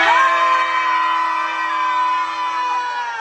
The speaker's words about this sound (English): So on the count of three. Jesus. One, two, three. Scream.